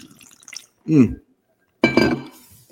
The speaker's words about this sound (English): The people listening to this, all they get's just the sound of you taking a sip. It's kind of sexy, doesn't it?